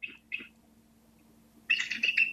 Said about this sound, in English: First, I want to start with kind of a tweeting sound, which I love to hear, but it, right, you know, it sounds a little incongruent coming out of this big, amazing bird. So let's listen a little bit to what I would call tweeting.